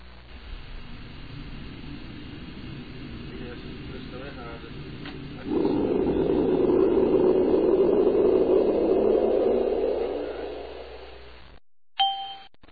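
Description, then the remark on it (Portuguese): A jet airplane roars as it takes off, the rumbling engine noise swelling loudly for several seconds before fading away, followed by a short bright ding at the end. “Senhores passageiros, apertem os seus cintos, porque o avião vai subir.”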